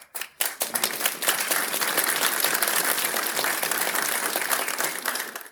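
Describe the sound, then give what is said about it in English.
A crowd applauds steadily for several seconds, dense overlapping claps forming a sustained wash of sound that starts abruptly and stays loud throughout before ending sharply. “There was applause at how Abagnale steered me away.”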